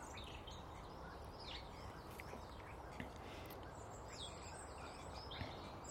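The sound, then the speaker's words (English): A blackbird sings in the morning in short, scattered phrases, faint, over a steady wash of outdoor background noise. No one speaks. “Hello, Miss Blackbird. How are you this morning?”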